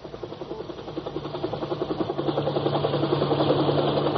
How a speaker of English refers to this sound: Overhead, a helicopter windmilled toward the shambles.